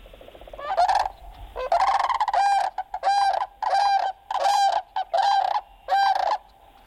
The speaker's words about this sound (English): I want to give a listen to a bird I think I've seen. Correct me if I'm jumping the gun here. Here's a listen to the sandhill crane.